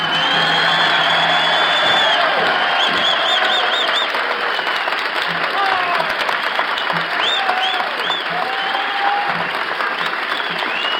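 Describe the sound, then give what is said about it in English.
Steady, dense applause from paying customers in the Carousel ballroom in Manchester, New Hampshire, greeting a conductor, with scattered whistles and whoops rising above the clapping; it stays loud and continuous throughout. “the applause is now being volunteered and offered by the paid customers this evening at the Carousel.”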